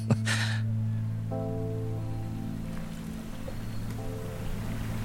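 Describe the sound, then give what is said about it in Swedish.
A boat belonging to the Larsson family sits bobbing in the harbour at Marstrand, with a steady low mechanical hum and a wash of water noise throughout, plus a brief splashy rush near the start. No voices. “En annan båt som ligger och guppar i Marstrand tillhör familjen Larsson.”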